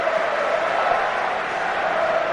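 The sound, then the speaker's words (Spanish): A large stadium crowd at Mestalla roars and applauds in a sustained ovation at the final whistle of Valencia's 3-0 football win over Teruel. It is a dense, steady wash of cheering that holds at full volume without letting up. “Imposible una gran escuchar ovación ahora. De la grada para un gran partido que ha hecho el Valencia Club de Fútbol, un 3-0”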